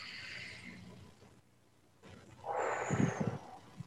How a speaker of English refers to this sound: So let's take three deep breaths. First breath, just pay attention to your breathing. Second breath, relax. Third breath, set your intention for the next hour of your day. Here we go.